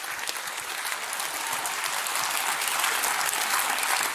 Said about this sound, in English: Is that awesome? Let's cheer for that.